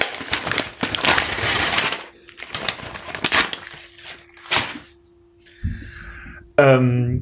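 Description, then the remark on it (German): Crinkling and rustling of wrapping paper in several bursts as a gift is unwrapped, with a steady faint hum underneath and a brief voice near the end. “Ein anderes Geschenk. Ja. Ich mach jetzt mal auf hier.”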